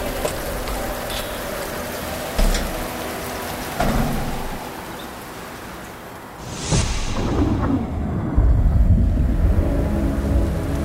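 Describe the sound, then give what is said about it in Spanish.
Steady rain pours down with a dense, hissing wash, joined by low rumbling swells that sound like thunder rolling in and out. No one speaks. “Mejor ya vete a dormir y vas a ver qué más vas a tardar en despertar que la lluvia en irse.”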